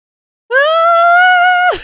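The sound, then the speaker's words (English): A voice imitates a screaming turtle with one loud, sustained, high-pitched screech that holds steady for over a second, then drops sharply in pitch and breaks off. No other sound accompanies it. “Turtle screaming noises, but no, 100%.”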